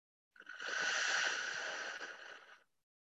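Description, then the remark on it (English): A single long, deep inhalation, a steady airy rush lasting about two seconds that swells quickly and then tapers off into silence, with no talking. “So first, we're going to take a deep breath in, so breathing deeply.”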